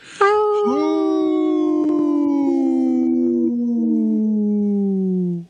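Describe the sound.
A person imitates a wolf howl: one long, sustained tonal cry that starts high and slowly glides downward in pitch for about five seconds, loud and steady with no other talk.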